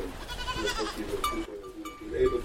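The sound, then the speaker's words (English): Several goats bleat in overlapping, wavering cries inside a barn before being milked for cheese making, with a faint metallic clank like a bell, steady throughout. “We'll start with milking the goats.”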